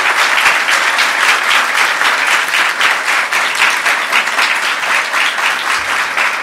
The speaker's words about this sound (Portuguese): Portanto, eu queria aqui cumprimentar e também pedir uma forte salva de palmas ao maior presidente da história desse país, o presidente da educação, o presidente Luiz Inácio Lula da Silva.